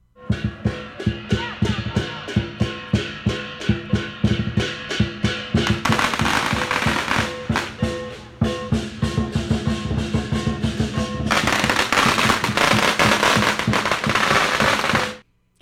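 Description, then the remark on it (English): Strings of firecrackers go off loudly as teams of Chinese New Year lion dancers go store to store on River Street in Chinatown, Oahu, starting as a rapid run of sharp, evenly spaced bangs before erupting into dense, continuous crackling bursts that roar on for several seconds, with no talking. “Those were sounds of teams of lion dancers going store to store in Chinatown here on Oahu.”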